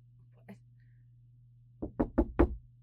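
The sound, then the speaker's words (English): A single faint tap, then four firm knocks in quick succession on the wooden door of a janitor's closet blocked by a chair, knocked by someone locked inside, slightly muffled as if from behind it, over a low steady hum. “Who put this chair blocking the door?”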